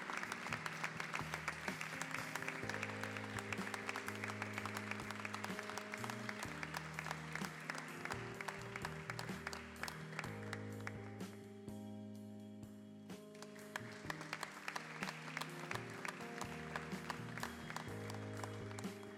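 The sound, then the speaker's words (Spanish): An audience claps steadily and loudly for the whole stretch at an award ceremony, welcoming the second prize for best shop window, won by Amor al Arte Tattoo Estudio. A dense patter of many hands plays while music with sustained tones plays underneath, the clapping thinning briefly midway before swelling again. “Nos quedamos para la foto final y recibimos con el aplauso de ustedes también al segundo premio a mejor escaparate.”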